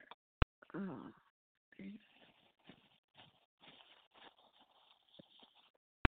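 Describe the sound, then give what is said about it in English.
Someone blows their nose: a loud honking burst, then a string of softer, snuffly, breathy blows. Sharp clicks mark the start and end. “I gotta blow my nose.”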